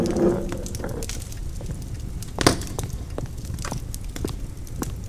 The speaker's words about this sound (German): eine versteckte Nische und darin ein knisterndes Kaminfeuer.